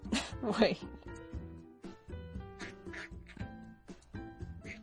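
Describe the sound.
A voice imitates a duck with a couple of loud, nasal quacks near the start, followed by ongoing talk and steady tonal background sound.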